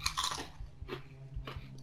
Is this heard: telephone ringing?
no